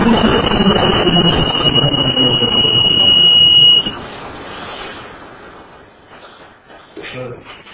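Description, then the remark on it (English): A fire alarm panel's common alarm distress sounds as signals are sent to the fire panel: a steady, piercing electronic tone over busy background noise, stopping abruptly after about four seconds; quieter voices and rustling follow. “It shows you the common alarm distress. So we're sending signals to the fire panel now.”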